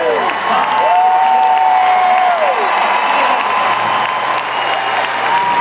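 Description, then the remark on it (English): A huge stadium crowd applauds a bronze medallist steadily, dense clapping filling the space with scattered whistles and cheers rising over the sustained roar. “So it's been drowned out by a bronze medal, a very well-deserved bronze medal.”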